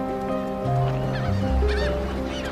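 Seagulls circling overhead cry out in a few harsh, honking calls as fishing boats dock in a harbor. The calls sound over a low, steady drone of boat engines, loud, with no talking.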